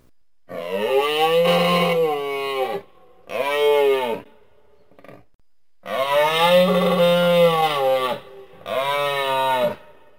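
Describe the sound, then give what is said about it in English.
A moose calls four times in loud, drawn-out, groaning bellows, the second and fourth shorter, with brief pauses between them and no talking. “All right, this is what a moose sounds like.”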